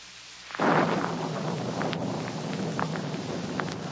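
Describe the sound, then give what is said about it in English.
A sudden loud clap of thunder bursts in, then rolls on as a sustained heavy rumble with storm noise and faint crackles, no voices present. “As I came closer, Carla turned up against the storm.”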